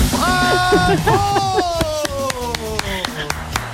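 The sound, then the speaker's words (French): A person lets out high, sliding squeaky cries imitating a marmot's call, two drawn-out gliding notes, while applause and scattered claps break out around it. “Quelle belle marmotte vous faites!”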